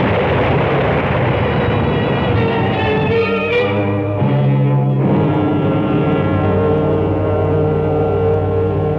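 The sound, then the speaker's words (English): A tree crashes down amid a loud, roaring storm, the heavy splintering impact breaking through midway over a constant, dense wall of wind noise. No voices are heard. “Rick, that tree's falling!”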